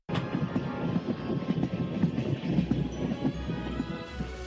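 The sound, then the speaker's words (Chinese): A steam train on a railway across the West, bringing building timber, firewood and coal, rumbles along the rails with a steady, rhythmic chugging and clatter, a continuous, moderately loud mechanical sound with a low droning hum coming in toward the end. “而且铁路已经贯穿西部，火车运来盖建房屋用的木材以及可以烧火的木柴和煤。”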